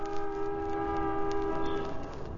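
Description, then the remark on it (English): Street traffic noise from a traffic jam, heard through an open window: a loud, steady horn chord blares for about two seconds over a constant low rumble of engines, then drops away. No one speaks. “Fella can't hear himself think with that racket.”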